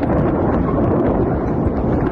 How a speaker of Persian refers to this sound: تصاویر منتشر شده از وقوع انفجار در منطقه در شرق تهران حکایت دارد.